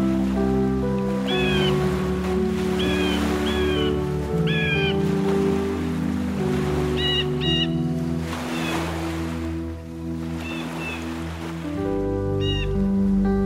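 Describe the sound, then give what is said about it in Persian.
Seabird cries ring out in short repeated bursts over a steady wash of crashing surf on a noisy bird island enclosed by water, with a sustained low musical drone underneath throughout. “اما در فصل بودن در جزیره مرغان است، و جزیره مرغان همان مکان پرهیاهوست که با برزخ آب محصور است.”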